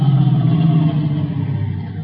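A car engine rumbles steadily, its low drone easing slightly as the car slows, pulls up beside another car parked up ahead and comes to a stop. No voices are heard.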